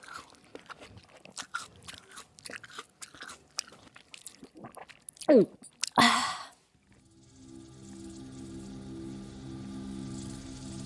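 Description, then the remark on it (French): Crunchy munching of a cabbage from a field, eaten down to the core: rapid bites and chewing that build to a few loud crunches, then give way to a steady, low droning hum. “Malgré ses yeux de travers, il réussissait à aller droit au chou le plus paumé du champ et le dévora jusqu'au trognon.”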